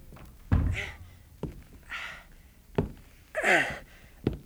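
A dressing-room door shuts with a solid thunk, among a few other dull knocks and thuds spaced a second or so apart, mixed with breathy exhales and gasps.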